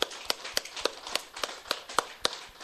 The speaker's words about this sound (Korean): 손뼉 한번 쳐보겠습니다.